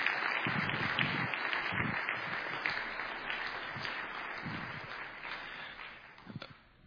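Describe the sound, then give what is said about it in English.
Sustained applause from a church crowd honouring a woman, a dense steady wash of many hands clapping at once, holding fairly loud for several seconds before thinning out and fading at the end. “Let's give her one more round of applause if we would.”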